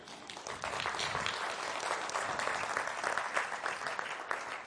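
A crowd applauds steadily, a dense wash of many hands clapping at a constant moderate loudness for several seconds, with no voices rising above it.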